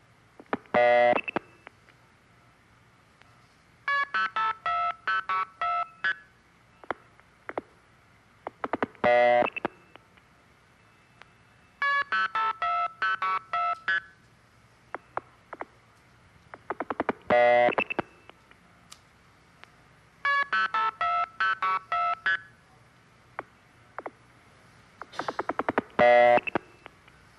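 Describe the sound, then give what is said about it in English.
Repeated bursts of telephone multifrequency signaling tones, each sequence framed by two tones, a longer key pulse tone at one end and a start tone at the other, arriving in rapid electronic beeping clusters over a steady low hum, with no talking. “There are two tones at the beginning and at the end. One is called the key pulse and the other is start, and the announcer failed to mention that.”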